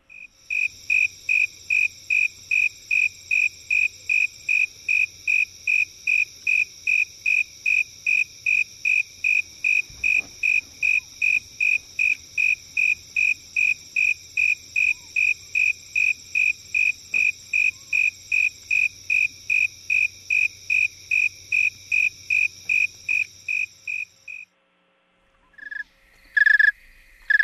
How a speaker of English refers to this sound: Snowy tree cricket, Acanthus fultoni. Songs of a warm male, followed by songs of a very cold male.